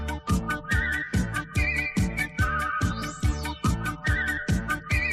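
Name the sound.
whistling a tune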